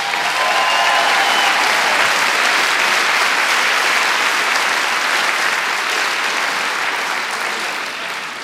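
Loud, sustained applause from an audience, a dense steady wash of clapping that holds strong for over eight seconds before tapering slightly at the end.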